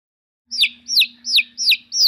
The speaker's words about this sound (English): It's a chick.